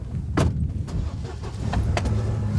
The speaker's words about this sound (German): zur Spritztour mit dem Truck durch die Zivilisation.